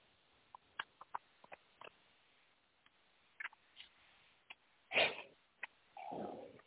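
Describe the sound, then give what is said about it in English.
A paper knife working through paper: scattered light taps and rustles, then a sharp scrape and a longer rasping slice near the end, fairly quiet, with no voices. “Use my paper knife too.”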